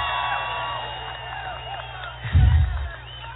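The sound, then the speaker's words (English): A large crowd cheers steadily at a Donald Trump campaign rally, with scattered whoops and shouts rising over a continuous roar, followed by a brief louder swell of noise near the end. “I really, really appreciate this tremendous crowd.”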